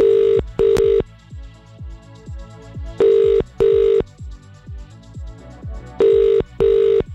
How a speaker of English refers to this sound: The question is it your phone ringing now?